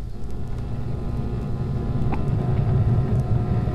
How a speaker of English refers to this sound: Car is going around behind the building, checking the back doors.